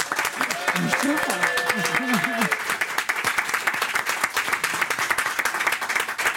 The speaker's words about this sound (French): Applaudissements